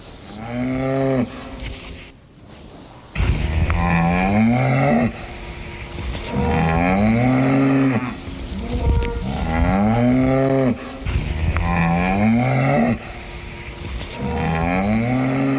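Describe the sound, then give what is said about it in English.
Several cows waiting to be milked moo loudly in a barn, their long, drawn-out lowing calls following one another almost without pause, with no one speaking. “But you've got some cows to milk”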